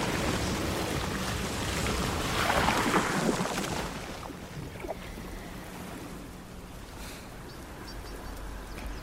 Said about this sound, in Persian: با این ورد آب به حالت فواره از زیر یخ بیرون میزنه.